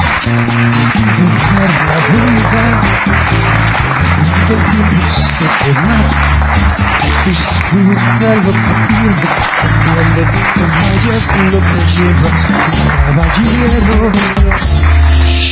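A loud, sustained round of audience applause fills the whole stretch, dense and continuous, with a low musical backing running underneath it.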